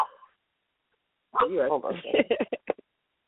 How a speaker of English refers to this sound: Oh, my God, my dog just talked back to me.